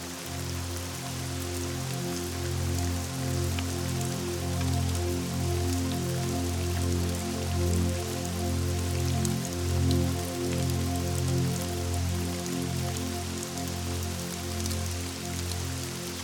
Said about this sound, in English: The sparkling clear water is raining down, splattering on the rocks below. As you approach this waterfall, the sound reverberates, drowning out all other sounds.